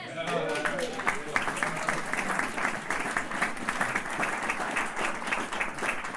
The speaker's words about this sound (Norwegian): Applaus!